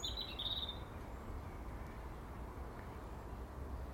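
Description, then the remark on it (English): A short, high-pitched call from a female blackbird, which is building a nest and sitting on a fence in the sun, sounds in the first second, then gives way to a steady, low rumbling background noise that continues to the end, with no one speaking. “Mrs. Blackbird, or should I now call her Mrs.? Yes, she's building a nest, so I guess she's Mrs.”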